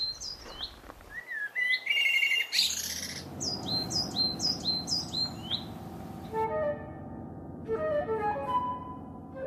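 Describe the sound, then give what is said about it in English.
A common blackbird sings in spring in the botanical gardens in Paris, mixing mellow fluty phrases with bursts of high, squeaky twittering, while other birds chirp faintly. “Nightingale sometimes just sounds like a video game, which does not the blackbird.”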